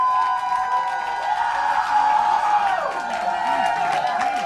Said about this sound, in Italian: Grazie. Applauso. Grazie, fatevi sentire!